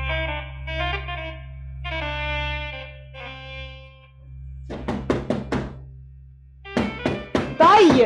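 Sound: knocking on a door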